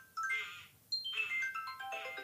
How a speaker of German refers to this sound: es gibt so einen TikTok-Trend, da zeigen Eltern diesen Anfangssong